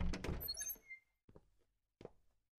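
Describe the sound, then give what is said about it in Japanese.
A door opens with a loud clattering rattle and a brief squeak, then two softer thuds follow after short pauses. “ああ、扉は閉めて。しっかりとね。”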